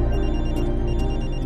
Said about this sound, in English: … answers his phone.